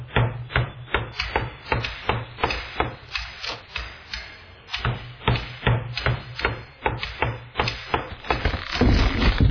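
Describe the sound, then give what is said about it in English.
Steady, rapid hammer blows pound against a wall being removed inside a house, about two sharp knocks per second for the whole stretch, with a low hum underneath and a louder crumbling rumble at the end. “I'm removing this wall.”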